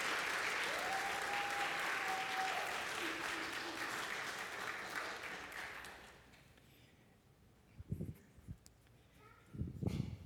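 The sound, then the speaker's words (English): An audience claps together in a steady, dense burst of applause that lasts several seconds, then fades out, leaving a quieter stretch broken by a few short knocks and bumps. “And let's give a hand of applause.”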